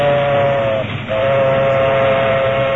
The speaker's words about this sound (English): It was mid-morning when a locomotive and a caboose, the combination known to railroad men as a caboose bounce, moved west along the tracks.